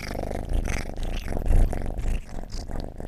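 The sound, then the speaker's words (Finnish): A kitten purrs, a steady low rumble that pulses in a quick, even rhythm for a few seconds, with no voices over it. “No hei, sä tulit siihen kehräämään.”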